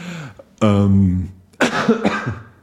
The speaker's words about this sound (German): Aber da immer noch ein bisschen husten.